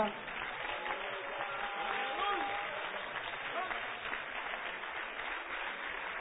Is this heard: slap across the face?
no